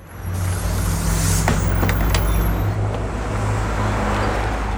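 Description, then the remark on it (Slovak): A bus's engine rumbles steadily with a low droning hum, road noise and a few brief clanks or hisses as the bus travels to Rožňava. No one speaks. “Po chvíľu už boli na stanici v autobuse do Rožňavy a potom v druhom do dedinky Kováčová.”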